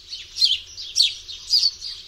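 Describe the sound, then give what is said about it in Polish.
A house sparrow gives its contact call, chirping in lively, bright bursts, about four or five short calls in two seconds at a fairly even pace, clear with no voices. “Znany wszystkim głos kontaktowy wróbla to żywe ćwierkanie.”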